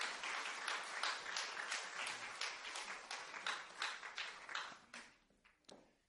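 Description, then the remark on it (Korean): A crowd applauds steadily for several seconds at an Isaac Bible College graduation ceremony as a graduate's diploma is presented. A dense wash of many hands clapping thins out near the end into a few scattered final claps, with no talking. “모두 큰 박수로 축하해 주시기 바랍니다.”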